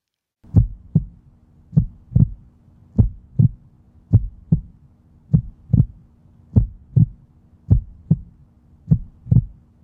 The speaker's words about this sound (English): This is a heartbeat. It's slow.